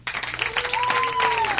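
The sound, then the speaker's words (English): The married people in an audience break into a dense, steady round of applause with scattered cheers, and a single sustained whistle rises over the clapping partway through. “By round of applause, let me hear the married people.”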